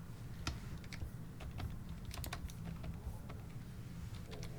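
Rapid, irregular clicking of keys on a computer keyboard, steady, with a low hum underneath and no voices.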